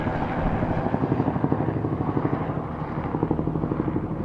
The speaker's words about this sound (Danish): Nu skal din veninde ud på en flyvetur. Hun skal med helikopteren. Så det kommer til at larme meget.